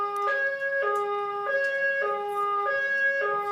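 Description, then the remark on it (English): A building emergency alarm siren blares steadily during a committee hearing, alternating between two harsh electronic tones roughly every half second, loud and continuous with no voices over it. “There has been an emergency reported in the building.”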